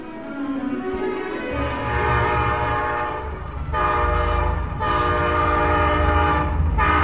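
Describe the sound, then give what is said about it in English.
A loud train horn blares in long sustained blasts over the deep rumble of a passing train, with brief gaps between the horn calls. “A train.”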